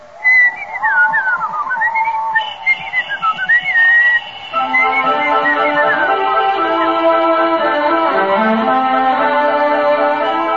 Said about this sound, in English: I'll whistle.